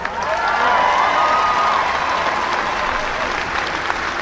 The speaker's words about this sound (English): You're a credit to the game of hurling. And you've done so much, and just you should be so, so proud of yourself. Round of applause for Eastkey.